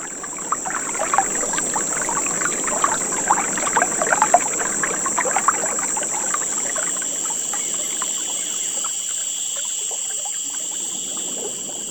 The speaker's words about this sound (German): Rio Verde lebt ausschließlich von den Aufnahmen und Geräuschen des Dschungels, dem Rauschen des Flusses und dem Zirpen der Grillen.